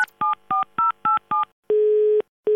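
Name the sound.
telephone keypad dialing tones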